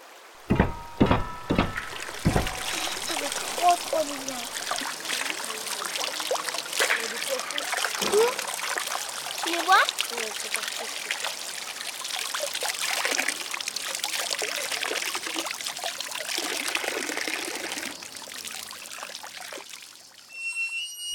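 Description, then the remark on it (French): A river rushes steadily, a continuous bright, hissing wash of flowing water with small splashes and gurgles throughout, preceded by a few sharp knocks at the very start. “On entend le son de la rivière.”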